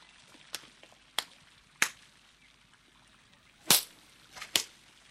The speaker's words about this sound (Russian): Ну что вы делаете? Что вы? Я негодяю и пройдохе даю пощечины.